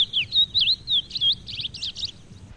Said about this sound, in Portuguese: Quer dizer, só o indivíduo da espécie que vai vir, que vai reagir ao tocar do canto dele, é que desencadeia este canto todo um processo de defesa territorial. Então, o passarinho vem brigar contra o gravador.